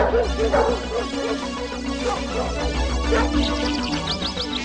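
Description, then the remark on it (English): A female dog that has picked up a scent barks and whimpers excitedly, fairly loud, with a steady stream of yips and whines that turn into rapid, high-pitched whimpers toward the end. “The dog's got a scent.”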